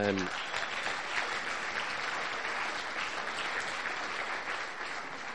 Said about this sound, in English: all the leaders deserve a great big round of applause.